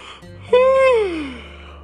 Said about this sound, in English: … was still yawning from his nap.